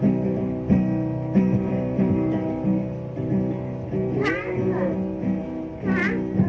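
A cat meows several times in drawn-out, wavering calls, two of them rising sharply near the end, fairly loud over a steady, tonal background.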